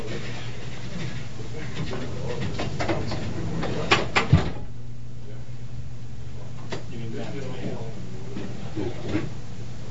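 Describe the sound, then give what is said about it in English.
A door is opened with a couple of quick, sharp clunks from the latch and handle, set against a steady low hum with faint murmuring voices. “Let me open the door here.”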